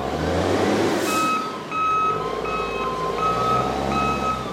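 Steady, repeating reversing beeps from a big container-handling machine at a port in Colombia as it grabs a shipping container off a stack and sets it down next to a ship; each tone evenly spaced and fairly loud, over a deep rumbling engine drone with no voices.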